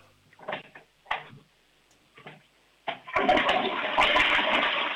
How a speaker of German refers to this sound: Das ist eine laute Klospülung. Also ich würde sagen, da kann man schon ordentlich hinein. Da ist trotzdem alles weggespült.